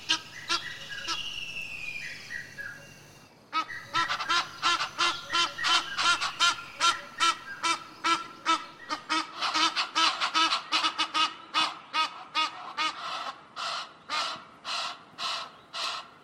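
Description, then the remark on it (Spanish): Egyptian geese on the banks of the Luangwa River give harsh, raspy alarm honks as they drive intruders from their breeding areas: a few scattered calls, then a loud, rapid run of repeated grating honks that keeps a steady rhythm and slows slightly toward the end. No voices. “Las ocas del Nilo, muy territoriales, no hacen más que echar a intrusos de sus zonas de cría en las orillas del río Luangwa, emitiendo un desagradable graznido en señal de alarma.”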